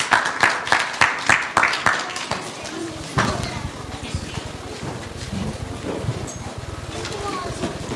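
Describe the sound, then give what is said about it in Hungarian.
A church audience welcoming a guest preacher from Kaba claps in a steady, rhythmic beat of about ten sharp claps, then breaks into dense, sustained applause that holds at a fairly even level to the end. “Köszöntsük őt szeretettel egy tapssal, és megkérlek, hogy szolgálj közöttünk.”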